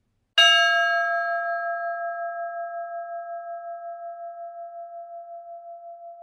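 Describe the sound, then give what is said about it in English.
A single chime is struck once during a pilgrimage, its clear metallic tone ringing out and slowly fading over several seconds in an otherwise quiet space with pews, with no voices; it marks the start of a reflection. “During your experience, you will hear the sound of this chime.”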